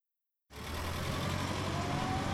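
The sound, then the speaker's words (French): After a brief silence, a bus engine rumbles to life with a deep, steady roar and broad road noise as the bus drives away, staying fairly loud throughout, with no voices. “Oh non ! On vient de rater le bus.”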